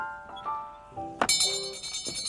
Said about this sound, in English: Well, that's enough testing. Now, I've heard enough bell stuff for today.